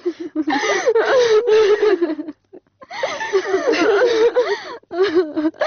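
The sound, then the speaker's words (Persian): A person cries and whimpers in shaky, wavering sobs, breaking off briefly in the middle before the weeping resumes, strained and fairly loud. “بس از دگه گریه نکو.”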